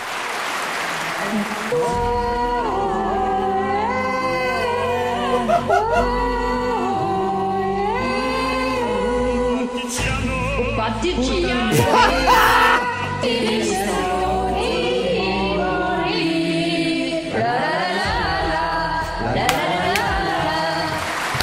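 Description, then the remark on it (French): A singing troupe, Les Blaireaux du cœur, sings Bella Ciao together loudly and continuously, badly out of tune, with one shrill, yelping voice, likened to a dog's cry, cutting above the rest throughout. “les Blaireaux du cœur, une troupe de chanteurs qui tente depuis plusieurs mois de virer un de ses membres dont la voix est comparable à un cri d'un chien qui a la queue coincée dans une porte.”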